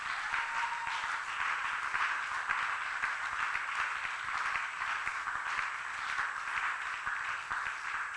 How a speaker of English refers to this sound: Can you clap and give the praise to God?